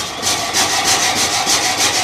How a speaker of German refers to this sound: Zuerst aber fängt alles mit der Säge im Gebäude an, mit der Gattersäge. Wenn die arbeitet, hört sich das so an.